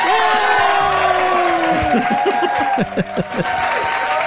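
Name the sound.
crowd cheering sound effect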